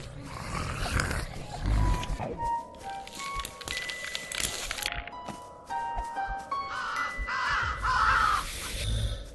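A raven caws harshly several times in loud, ragged bursts over a busy backdrop of rumbling and crackling noise. No one speaks.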